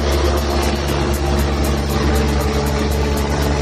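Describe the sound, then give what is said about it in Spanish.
A Mossos d'Esquadra police helicopter, one of several deployed in a police operation in San Hipòlit de Voltegrà, Osona, province of Barcelona: a steady, loud engine drone, with a fast rhythmic chop from the rotor blades running through it and a deep low rumble underneath. No one speaks. “Es el sonido de uno de los helicópteros desplegados en ese importante dispositivo de los Mossos”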